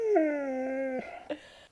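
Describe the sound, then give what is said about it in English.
A dog lets out a drawn-out howl that slides slightly downward in pitch, followed by a couple of short whining notes. It is fairly loud, with no talking. “We should add his howl into the intro noises.”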